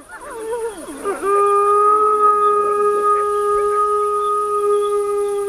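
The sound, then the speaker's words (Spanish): Wolf pups howl in protest after an adult wolf orders them quiet, their voices wavering and sliding upward before settling into a long, steady, sustained howl that carries on clearly without any talking. “Los cachorros ahora van a protestar.”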